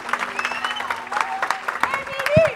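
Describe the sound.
An audience claps steadily in a dense patter of hand claps, with voices cheering and calling out over the applause, which swells slightly toward the end.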